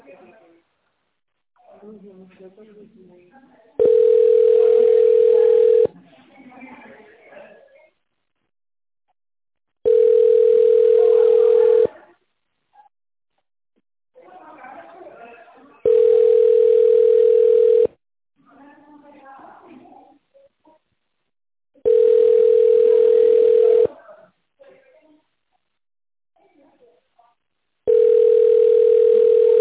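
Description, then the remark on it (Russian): A telephone ringback tone on a call to the Artes group of companies repeats steadily: five long, even beeps of about two seconds each, spaced roughly every six seconds, with faint voice-like murmur between them. “Наберите внутренний номер сотрудника или дождитесь ответа.”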